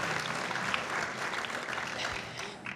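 Steady applause from a group, a dense rush of many hands clapping at once that holds an even loudness throughout with no voices standing out.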